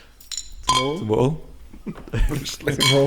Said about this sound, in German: Oder wenn wir zuerst anstoßen?